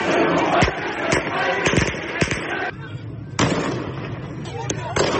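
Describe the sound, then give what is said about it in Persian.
A large outdoor protest crowd in Iran chants together in a loud, dense roar. They chant the slogan 'the people want the fall of the regime'. Several sharp, sudden bangs like gunshots or firecrackers punctuate the chanting, with a brief lull midway before the noise swells again. “این شعار که از تجمعات مردم در روز جمعه برداشته شده می‌گوید مردم سقوط نظام را می‌خواهند.”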